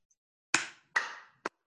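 Three sharp, separate claps ring out for a speaker after a talk taking the audience through the 12 steps, each ending in a short fading tail, with the last one quicker and more clipped. There is no talking, and they are too few to form steady applause.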